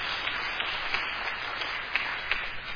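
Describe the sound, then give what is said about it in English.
An audience claps for God steadily for a few seconds, a dense wash of many hands with a few sharper individual claps standing out, and no voices over it. “You can clap for God.”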